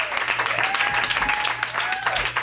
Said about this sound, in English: Everyone, big round of applause